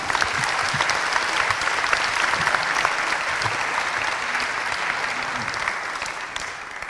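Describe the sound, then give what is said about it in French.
An audience applauds steadily for about seven seconds, a dense, even wash of many hands clapping that stays loud throughout before easing off slightly at the very end. No one speaks over it. “Et on peut l'applaudir, je pense.”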